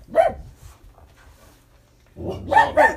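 A dog lets out a sharp bark, falls quiet for a moment, then fires off a quick cluster of two or three loud barks.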